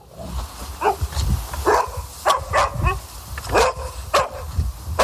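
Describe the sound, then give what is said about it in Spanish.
A dog barks repeatedly in short, sharp bursts, about eight or nine barks with brief gaps between them, fairly loud, with no one speaking. “Y tiene como protagonistas a nuestros amigos los peludos, a los perros, esos seres de cuatro patas que tanta compañía y tanto bien nos están haciendo.”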